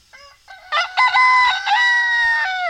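A rooster crows loudly, a rising strained call that swells into a long sustained cock-a-doodle-doo, played by Siri on a phone, with no one talking over it.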